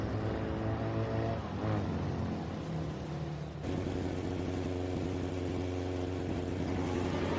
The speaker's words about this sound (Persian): شب مهتاب با موتور تو خیابون حرکت میکنه.